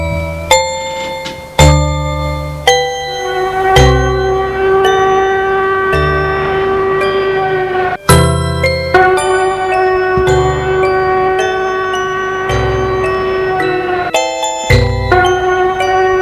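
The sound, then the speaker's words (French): A building security alarm, set off from the CEO's office and heard throughout the building, sounds as a series of ringing, bell-like chime tones struck at uneven intervals, each note sustaining and overlapping into a loud, steady, metallic wash with no voices. “Alors un système de défense l'a fait décharger un rayon très puissant dans la main et en même temps a mis en route une alarme.”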